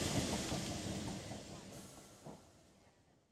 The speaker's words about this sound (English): The 14:15 service to Bristol Temple Meads. The train now arriving in Platform 2.